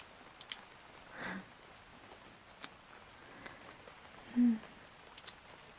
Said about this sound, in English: I can't believe it's still raining.